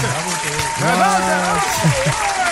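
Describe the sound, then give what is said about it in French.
A round of applause, a steady dense clatter of clapping hands, with voices cheering and calling out over it throughout. “On va agrémenter ça d'une main d'applaudissements.”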